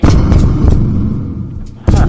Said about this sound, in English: Can you hear me banging on the wall? Do you hear me banging? I'm behind the wall, behind the washing machine.